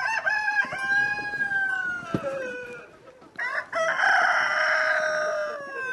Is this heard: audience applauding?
no